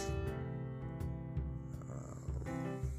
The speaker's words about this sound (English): I'm sorry about all the yawning, y'all. I just woke up.